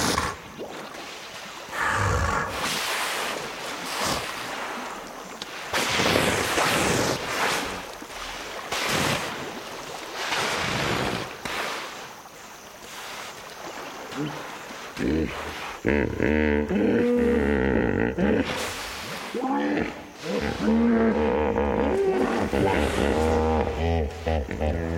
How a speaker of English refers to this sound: Recordist Chris Watson watched about 20 hippos at dusk emerge from the river for dinner. He recorded their chatter, which can be found along with other recordings of wildlife on his CD called ….